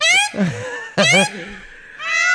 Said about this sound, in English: oh, there we go. That's a peacock. Hold on, listen to that.